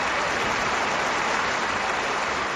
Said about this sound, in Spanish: El miércoles se cumple un año de su muerte y así sonó en tiempo de juego el homenaje al brujo en el minuto 9. El cántico, ahora Quini, ahora, mezclado con los aplausos.